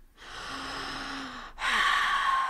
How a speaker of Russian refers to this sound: Так, дыши. Глубже дыши.